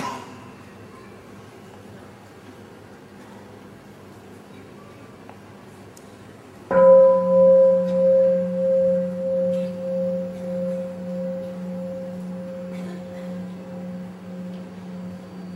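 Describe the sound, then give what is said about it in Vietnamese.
After a stretch of quiet, a single mindfulness bell is struck once, giving a deep, resonant tone that hums and wavers as it slowly fades over several seconds. “Tiếng chuông đó gọi là tiếng chuông chánh niệm, nghĩa là tiếng chuông nó đem mình trở về với mình, đem thân, đem tâm trở về với tâm, gọi là chuông chánh niệm.”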